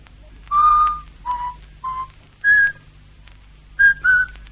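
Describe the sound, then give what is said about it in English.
A person whistles a short tune, six or so clear notes in a halting, uneven rhythm with brief pauses between them, over a faint low hum and no talking. “he whistles all the time. The same tune. He whistles all the time. Listen.”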